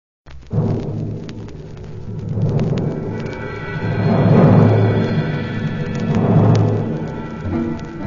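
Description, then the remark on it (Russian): Deep rolling thunder rumbles continuously for several seconds, swelling in waves and fading back, with a loud crash in the middle and no voices present. “Вдруг поднялся стук да гром, весь дворец затрясся.”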